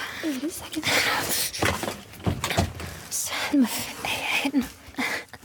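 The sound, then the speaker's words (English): A door shuts with a few sharp knocks and clunks as its lock is worked and the door is locked, while a voice murmurs over the handling noise. “Oh no, I accidentally locked the door.”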